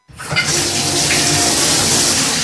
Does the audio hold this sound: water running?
yes